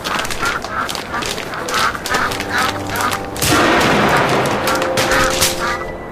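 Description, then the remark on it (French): A rapid string of sharp rifle gunshots, fired at a duck, cracks out over loud duck quacking and honking, the shots and calls overlapping in a busy, continuous clamor. “Si vous voulez des news, va falloir utiliser le fusil.”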